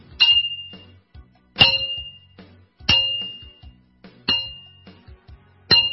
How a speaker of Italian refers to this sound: L'orologio suona la mezzanotte.